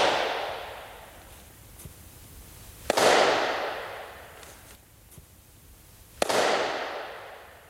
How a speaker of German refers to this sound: Der Abstand bis zur Orgel ist ungefähr noch 20 Meter. Der Abstand bis zur Rückwand ist ungefähr 15 Meter. Bei diesen 12.000 Kubikmeter haben wir also ein riesiges Schallfeld. Und ich versuche es mal anzuregen durch Händeklatschen.